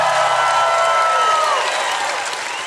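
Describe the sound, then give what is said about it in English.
A large crowd at the Lincoln Square AMC, the biggest crowd the show has had, gathered to watch Survivor, applauds and cheers loudly and steadily, dense clapping with scattered whoops and shouts rising above it, holding strong throughout before easing only slightly at the end. “Let the people at home hear you guys. The biggest crowd we've ever had.”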